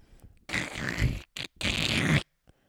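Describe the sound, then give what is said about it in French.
Two long, harsh, grinding creaks as a skull's jaw slowly opens, loud and alone, separated by a brief scraping tick, the second creak as rough as the first. “Mais la bouche du crâne se réouvrit avec le même grincement.”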